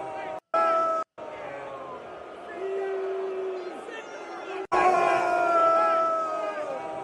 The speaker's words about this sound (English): This was at MetLife Stadium. And people were fucking booing it, dude.